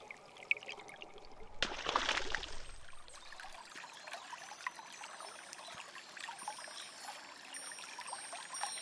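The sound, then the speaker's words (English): The River Rye flows steadily, its level rising, with a trickling, babbling texture, swelling briefly into a louder rushing gush early on before settling back to a gentle continuous flow. No one speaks. “You see, the river level on my beautiful bank is rising, and it could flood my home.”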